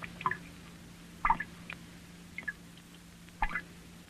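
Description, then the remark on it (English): Water drips falling into a small tank, picked up by an ordinary studio microphone: four or five distinct plinking drops at irregular intervals, fairly quiet, with a faint steady hum underneath and no one speaking. “Here is some water dropping into a small tank as its sound is picked up by an ordinary studio microphone.”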